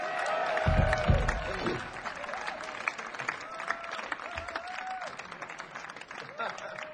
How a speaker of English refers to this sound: This is Mr. Peter Buck, as you all know, everyone. Give him a big round of applause, please.